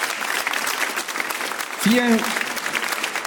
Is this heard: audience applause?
yes